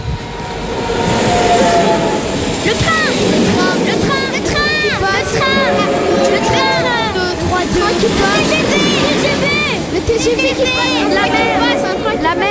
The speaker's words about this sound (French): Le TGV